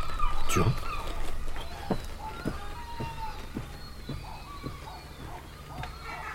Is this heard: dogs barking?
yes